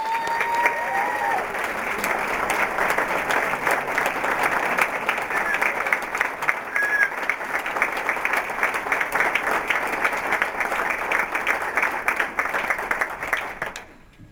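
A large audience gives a huge celebratory round of applause for a decade of History Symposia efforts, steady for about fourteen seconds, a dense, even wash of clapping with a few faint whistles, ending abruptly.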